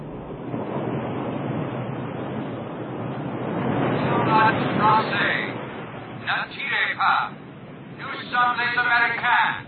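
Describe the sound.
A steady, loud rushing wash of waves blends with a droning boat engine throughout, heard aboard a boat carrying about 50 men, while indistinct, strained voices of men praying and heaving break through in short bursts during the second half.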